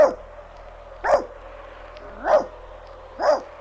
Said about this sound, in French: Aboie, Nan. Aboie très fort.